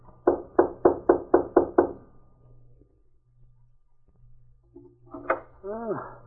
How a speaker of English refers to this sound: Here we are. This is Fontaine's cabin. I'll knock.